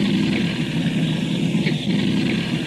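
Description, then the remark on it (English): A loud, steady drone of propeller aircraft engines on a full plane carrying 20 people, one engine having quit, fills the whole stretch, a continuous rumble with a buzzing hum that never lets up, and no voices. “An engine has quit.”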